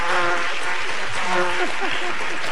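A fly buzzes, its droning whine wavering in pitch as it circles and passes, heard steadily over a hissy, noisy background for a couple of seconds.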